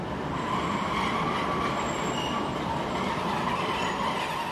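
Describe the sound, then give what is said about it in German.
A train rumbles steadily at the railway station in Bad Schandau on a Sunday afternoon in May, its broad mechanical roar filling the whole clip with a faint high squeal riding on top, and no voices. “Der Bahnhof in Bad Schandau ist menschenleer.”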